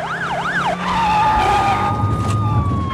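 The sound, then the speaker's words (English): A police car chasing an Astra through narrow streets races past, its wailing siren cutting off into a long, high tyre squeal as it corners hard around bends, with a loud engine roar rumbling underneath. “The squad car swings around bends after the Astra.”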